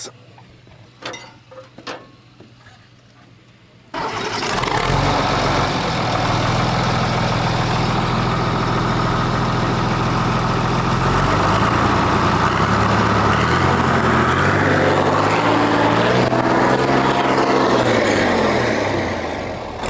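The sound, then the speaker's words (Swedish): A really big engine with a non-original exhaust pipe cranks and roars to life, settling into a loud, rumbling idle before the revs climb and surge in a few throaty pulls near the end, with no talking. “Få höra hur en riktigt stor motor låter. Jag tänker lite på tomgång och sen gasar lite sådär.”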